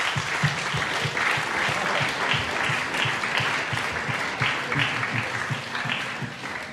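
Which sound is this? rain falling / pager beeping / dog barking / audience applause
audience applause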